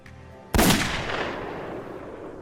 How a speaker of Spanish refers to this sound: El arma podía disparar balas calibre 38, las balas usadas en el crimen según los investigadores. Apuntó y disparó.